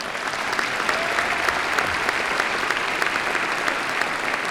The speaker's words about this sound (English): Let's all give them a nice round of applause.